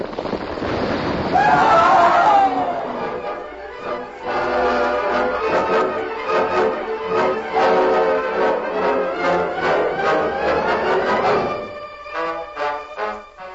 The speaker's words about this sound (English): Tons, rock, and ice buried the two men who had started the avalanche with their gunfire.